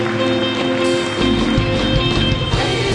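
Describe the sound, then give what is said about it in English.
A church audience gives a clap offering to God at a Palm Sunday service, clapping together in a dense, steady stream of applause that grows fuller after the first second, with sustained low musical tones beneath and no voices. “Thank God with a clap offering.”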